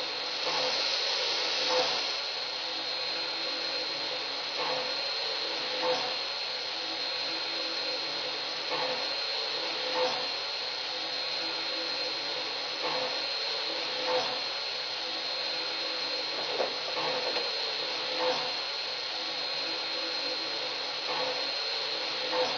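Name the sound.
steam locomotive hissing steam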